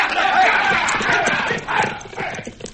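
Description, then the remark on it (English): Horses ride off with a steady, rapid clip-clop of hooves, several animals at once, loud and busy over a low rumble of voices and movement. “All right, boys, get up on your horse.”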